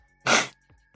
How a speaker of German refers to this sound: Ich muss mal die Nase putzen. Moment.